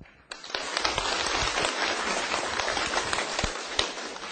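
An audience breaks into sustained applause welcoming a teacher to continue the lecture: dense, rapid clapping from many hands that starts abruptly and holds at an even, fairly loud level, with a few sharper individual claps standing out.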